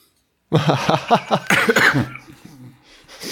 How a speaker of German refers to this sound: Oh, man merkt, ich huste wirklich noch. Ne? Es ist so, als würde dir einer mit der Schneeschaufel einmal so in die Lungen stechen.